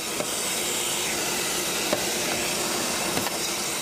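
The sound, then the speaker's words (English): A vacuum cleaner runs continuously at a car wash, vacuuming crumbs off a vehicle's carpet: a loud, steady whooshing roar with airy hiss, broken only by a few faint clicks. No one speaks. “Attendants can use air to clean your floor mats, or vacuum crumbs from your last fast food excursion off the carpet.”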